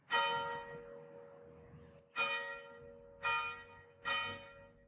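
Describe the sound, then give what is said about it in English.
A large bell in a bell tower in the middle of the square of the fortified community of Bethabara rings four times in a slow, uneven rhythm, each loud metallic strike followed by a long humming decay that carries under the next toll. No one speaks. “A bell was ringing.”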